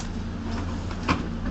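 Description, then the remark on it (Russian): A heavy door swings and shuts with a single solid clunk, set against a steady low rumble of background hum. “Такие тяжелые у нас двери.”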